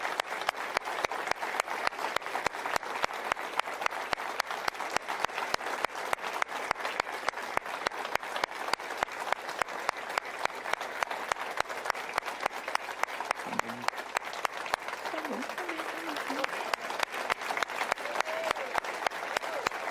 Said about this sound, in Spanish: I think it's time to praise God. So I want you to stand with me. Quiero que se pongan en pie, hermanos. Y quiero que le den gracias al Dios que les dio un fiel pastor. Amén, todos fuertes. Un fuerte aplauso.